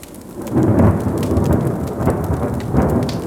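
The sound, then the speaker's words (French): A heavy, rolling rumble of thunder from lightning striking a pine tree swells over steady pouring rain, loud, with a second surge near the end and no voices. “mais un éclair l'a rattrapé et frappé à nouveau le pin le plus proche d'elle.”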